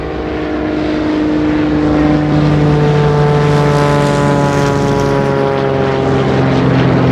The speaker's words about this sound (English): That's a big V formation. Uh-huh. Looks like 17 of them. Well, we probably won't be standing here looking up at planes like this for much longer, will we? Probably not.